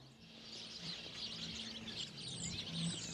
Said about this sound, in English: A little nature preserve right here on the corner of 33rd and Greenmount in the way of one tree on the sidewalk full of birds. I like that. Now I know why you guys like this spot. It's a good tree, huh?